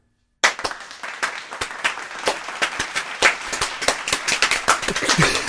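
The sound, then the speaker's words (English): Clapping breaks out suddenly after a moment of silence, sharp hand claps repeating steadily and growing denser and louder, with no voices. “Slow clap right here.”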